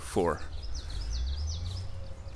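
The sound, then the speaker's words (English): A bird calls repeatedly in quick, high chirping phrases over a steady low outdoor rumble, with a brief human vocal sound at the very start. “And what's that bird making all that damn noise for?”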